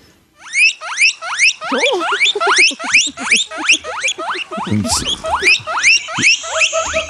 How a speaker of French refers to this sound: C'est un oiseau? Non plus? C'est un animal apprivoisé que tu peux avoir à la maison. Ah, OK. Une perruche, hein? Non, c'est une gerboise. Un c'est une petite gerboise.